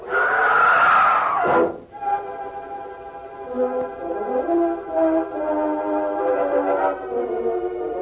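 A woman's loud, high scream from behind a circle of rocks bursts out at the start and cuts off after about a second and a half, followed by steady, droning tones that continue underneath.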